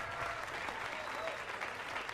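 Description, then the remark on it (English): A crowd applauds a musician on his birthday, a dense wash of clapping that holds at an even loudness for a couple of seconds with faint voices mixed in. “All right, let's hear it for …, huh?”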